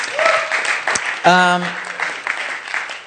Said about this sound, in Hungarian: Egy nagy tapsot kérünk a szuperhősöknek.